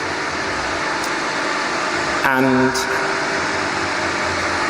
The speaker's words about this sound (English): sorry, there's a pump truck out there, which is quite disturbing to me.